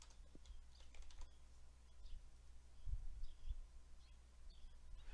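Quiet, irregular clicking of typing on a computer keyboard, entering an ICMP filter to find ping 192.168.1.1 traffic in a network analysis view, faint over a steady low hum, with a few soft high chirps in the background and no one talking.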